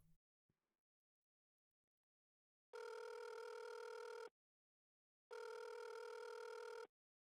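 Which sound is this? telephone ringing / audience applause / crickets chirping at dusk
telephone ringing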